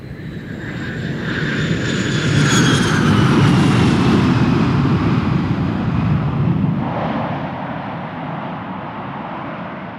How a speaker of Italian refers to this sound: Questi aerei, io ormai ho fatto l'abitudine. Danno fastidio alla registrazione? No? Bene, grazie.